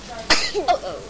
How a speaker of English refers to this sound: Are you sniffing? Yeah.